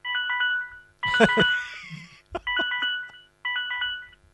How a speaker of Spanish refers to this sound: Le voy a marcar el número de ella. Ahí le voy a llamar, a ver.